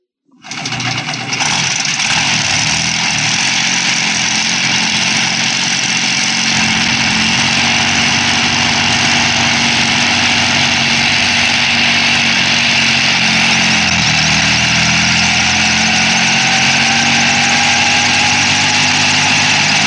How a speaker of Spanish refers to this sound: Cruzando el espacio en el super rápido helicóptero manejado por Calimán.